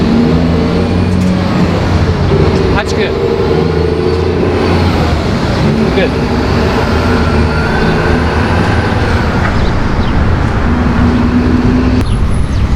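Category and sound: vehicle, road traffic passing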